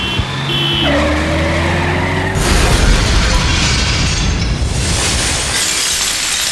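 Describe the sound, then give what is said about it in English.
A heavy tank engine drones, then at about two and a half seconds a loud, sustained crunch of metal and shattering glass erupts as a car is crushed, lasting several seconds before tapering. “Here comes a car, and it looks like Christo's gonna. Look out, mate.”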